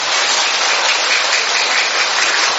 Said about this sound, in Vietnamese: Thưa anh chị em, chúng ta hân hoan chào nhau một tràng pháo tay nồng nhiệt.